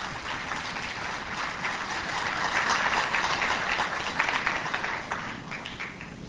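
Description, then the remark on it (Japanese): Sustained applause from a large audience welcoming a lecturer at a Seicho-no-Ie event, a steady dense patter of many hands clapping that swells slightly in the middle and holds throughout, with no talking over it. “皆様、絶大なる拍手でお迎えください。”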